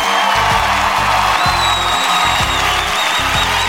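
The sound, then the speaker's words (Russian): Loud, dense applause from a quiz show audience after the first correct answer in a blitz round, with cheering and a high whistle sliding over the steady clapping for a few seconds. “Поаплодируйте мне. Просим аплодисменты.”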